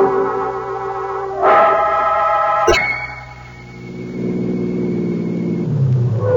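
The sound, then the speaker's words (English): A car engine rumbles and revs as the vehicle slows and pulls in off a highway under cover of trees late at night, a sharp click or clunk midway, then the motor idles low and steady with no one speaking. “I'll pull in here. Trees will cover the car in case anybody happens to be out late on the highway.”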